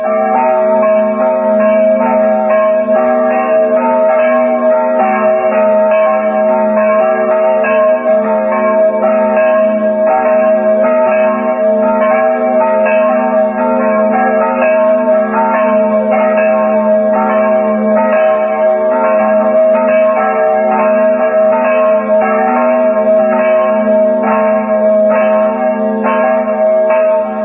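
The tuned bells of the Lutheran church in Bajsa ring steadily and loudly for the whole stretch, their rich, harmonious tones overlapping into a continuous sustained peal with no voices present.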